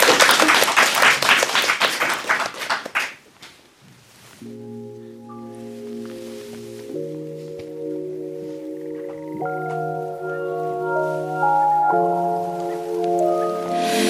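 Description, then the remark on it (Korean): An audience applauds loudly for about four seconds as a singer introduces a title song, a dense patter of many clapping hands, then fades as sustained musical chords and a soft instrumental intro of the song begin to play. “네, 박수로 청하도록 하겠습니다.”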